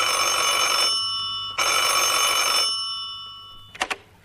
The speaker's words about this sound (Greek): Αμάν, το τηλέφωνο.